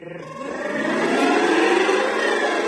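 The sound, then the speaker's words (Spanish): A rasping, buzzing drone imitates a revving motorbike. It is played on homemade turucletas, traditional instruments of Aragón built at a regional instrument workshop. The sound swells in loudness over the first second and then holds a steady, gritty roar. “Vale, hacemos la moto.”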